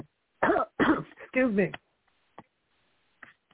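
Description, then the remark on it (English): A loud coughing fit of several harsh bursts in quick succession, followed by a few faint, scattered throat sounds and near silence. “I had a coughing spell.”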